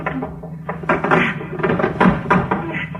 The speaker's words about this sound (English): Let's push this table against the door. Come on.